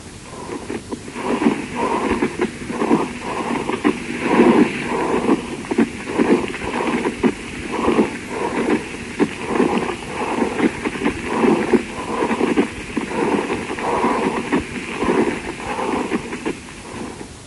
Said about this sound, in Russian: Прослушайте другой вариант шума трения плевры.